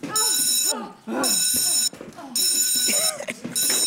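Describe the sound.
A shrill electric bell rings in four loud, sustained bursts separated by short gaps, while people talk excitedly underneath.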